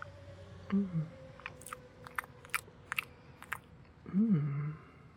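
Someone bites into a saucy chicken kebab on a stick with vegetables and chews, with a run of soft, irregular crunchy clicks, bracketed by two brief low murmured hums before and after.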